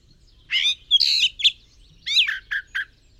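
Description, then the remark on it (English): A jay calls in two quick bursts of harsh, raspy squawks, several short notes each, fairly loud with no other sounds around them. “For a jay that lives in the forest is its habitat, where it finds food, water, shelter, and the company of other jays.”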